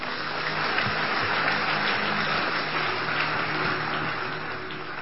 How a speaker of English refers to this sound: Give the Lord a powerful hand clap.